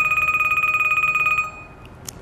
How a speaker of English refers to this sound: I'm just going to let it ring. I forgot to turn my cell phone off, and I'll get a...